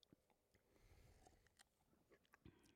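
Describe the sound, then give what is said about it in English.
Someone sips handmade vanilla milk, with quiet wet mouth noises, small slurps and a few sharp clicks and swallows spread over a couple of seconds, and no talking. “First sip.”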